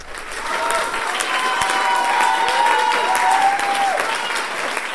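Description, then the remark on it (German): Sustained, dense applause from a large audience, steady and loud throughout, with whoops and shouts of 'Bravo' rising above the clapping, at the end of the Swiss premiere of the play «Eine Sommernacht» by Theater Biel Solothurn, staged in the hall of the Restaurant Kreuz. “Der Applaus am Schluss war lang und laut. Die Leute haben Bravo gerufen und gejohlt.”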